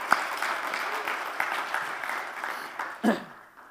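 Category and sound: crowd, applause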